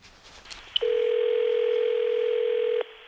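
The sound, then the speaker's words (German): A call on a mobile phone to the emergency number ringing through: a soft click, then one steady, evenly pitched ringback tone holds for about two seconds before cutting off abruptly. No one speaks. “Ich versuche es über mein Handy. Mal sehen.”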